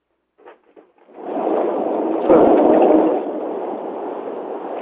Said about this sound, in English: Okay, somebody is in traffic or there's some roaring type of noise. Please mute your phone.